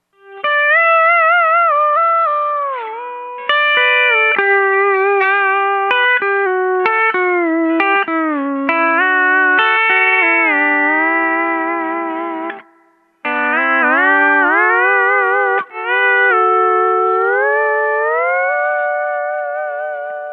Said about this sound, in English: Today I'm playing a Rittenberry SD10 through a Telonix combo amp, TCA500C. No reverb, no delay, no effects at all. This is what the steel sounds just direct out of the amp.